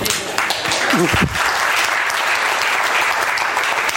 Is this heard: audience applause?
yes